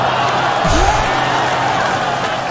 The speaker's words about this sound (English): Yeah. Everybody is cheering.